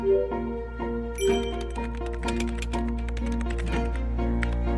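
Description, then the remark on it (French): Someone types on a computer keyboard in the evening, writing a story, quick irregular key clicks tapping away over a soft, steady musical tone in the background. “D'abord sur des petits bouts de papier, puis le soir, sur mon ordinateur.”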